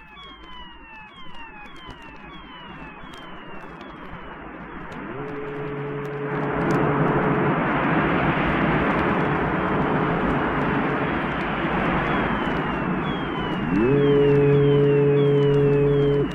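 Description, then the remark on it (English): A synthesized seascape by Brian Hodgson: a steady electronic hiss like surf swells louder midway, quick falling gull-like squeals glide early on, and two sustained low, buzzy horn blasts sound like ship foghorns. “In contrast, here from Brian Hodgson is a charming evocation of a seascape, with gulls, sea, and ships.”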